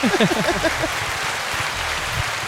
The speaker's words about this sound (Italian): ce l'abbiamo un applauso sotto mano? Potrebbe essere attivabile l'applausometro?